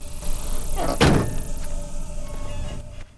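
car door being shut

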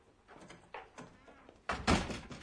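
door being shut

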